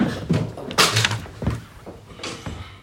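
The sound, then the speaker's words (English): A door thuds shut with a solid, heavy knock, followed by a brief rattle and a softer second bump as it settles. No one speaks. “Should I should have grabbed the door.”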